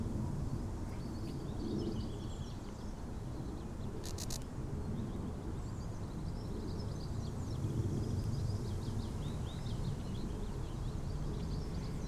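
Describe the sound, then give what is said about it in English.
Two trees rubbing together give off slow, drawn-out creaks and groans, recorded right next to where the trees touch so the creak is amplified, over a steady, dense rush of wind with faint birdsong in the background. “next to where the trees touched, so the creak is amplified.”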